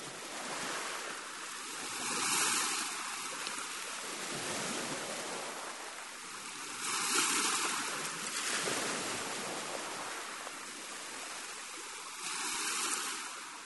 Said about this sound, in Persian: این آوای طبیعت. این آوای دریا.